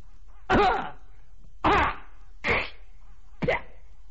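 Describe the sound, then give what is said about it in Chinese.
A voice imitates a series of four loud, forceful coughs, each a sharp throaty burst, spaced roughly a second apart with short silences between and no talking, in a Chinese storytelling performance, standing for a prison overseer coughing outside. “话刚说到这儿的功夫，就听外边有人咳嗽了一声，这声咳嗽听出来底气都特别足。”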